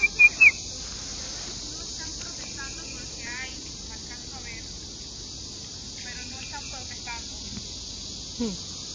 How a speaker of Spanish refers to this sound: Pájaro que se oye tan rítmico. Es una tángara. Es como tamaño mediano, vamos a ponerle. Como unos 10 centímetros puede ser.